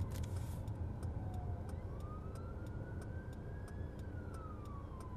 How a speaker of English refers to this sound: There is an ambulance coming our way. You'll hear it on the podcast. And there it went.